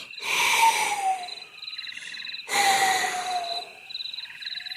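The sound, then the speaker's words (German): A wind sound effect whistles in two strong, hissing gusts, each carrying a thin whistle that slides downward, with a fainter high warbling tone lingering between them. No one speaks. “Jetzt saust der Wind.”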